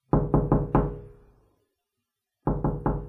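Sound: knocking on a door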